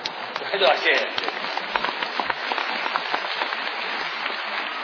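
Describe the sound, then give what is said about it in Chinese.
Audience applause for crosstalk performer Yu Qian fills the whole stretch, a dense, steady wash of many hands clapping with a brief louder swell near the start, and no talking over it. “谢谢大家， 值得鼓这个掌， 不敢这么说。”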